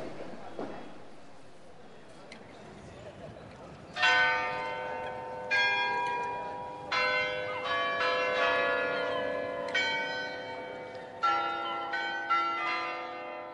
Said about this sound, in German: In Amsterdam liegt Musik in der Luft. Zwischen dem Rattern der Straßenbahnen und dem Geklingel der Fahrräder hört man immer wieder Glockenspiele von den Türmen der Kirchen und alten Stadttore.